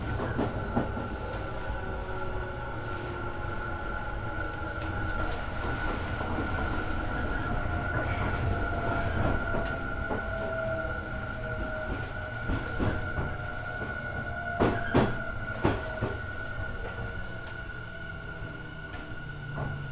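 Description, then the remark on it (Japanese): A commuter train in Japan, on a line with a stop at Naka-Itabashi where it waits for an express to pass, runs steadily, heard from inside the carriage: a constant low rumble with a thin electric whine, punctuated by sharp clacks of wheels over rail joints. No one speaks. “中板橋では急行電車の通過待ちいたします。お出口右側です。”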